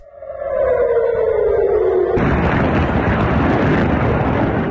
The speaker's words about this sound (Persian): به دنبال ادامه حملات موشکی از سمت غزه به اسرائیل، ظهر روز دوشنبه صدای آژیر در مناطق مختلفی از شهر تل آویو به گوش رسید و ویدیوهایی در شبکه اجتماعی از انفجار دست کم یک موشک در اطراف فرودگاه بن گوریون این شهر منتشر شد.